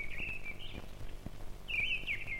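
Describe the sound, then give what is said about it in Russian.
A thrush sings its first song in a forest, two short, clear, timid whistled phrases separated by a brief pause, heard alone over a soft low rumble in the background. “Свою первую песню поет дрозд. Слышите?”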